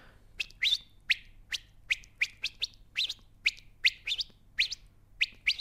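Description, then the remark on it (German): A young swallow twitters indoors in a hallway in a quick, uneven series of about fourteen short, high chirps, each a bright upward flick, repeated steadily over a low, quiet background hum. “Dann haben wir uns gegenseitig angezwitschert.”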